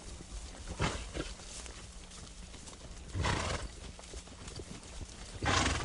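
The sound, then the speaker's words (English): Horses carrying men ride single file along a trail hacked out of the brush with machetes, their hooves clip-clopping in an uneven rhythm, with a few louder snorts or whinnies breaking through brushy outdoor ambience. “The men ride single file on a trail that's been hacked out of the brush with machetes.”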